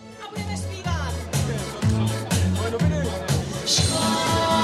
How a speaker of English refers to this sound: The warm-up act on a stage in the middle of a housing estate, trying to get the mostly elderly crowd clapping along to a medley of Czech hits. They're here for this man, Andrej Babiš, billionaire businessman, founder of the ANO party